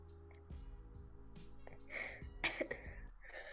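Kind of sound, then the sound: human body sound, coughing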